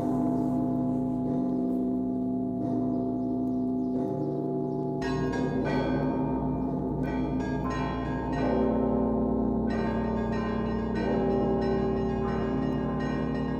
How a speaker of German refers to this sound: da gibt es also auch einen großen Zvon mit einer, unter anderem auch einer Glocke, die so tief ist wie die Petersglocke, aber sogar noch etwas mehr wiegt. Aber die schwingt nicht, die wird nur angeschlagen, aber es klingt trotzdem sehr beeindruckend.